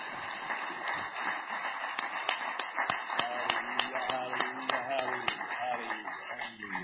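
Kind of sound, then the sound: crowd, audience hand clapping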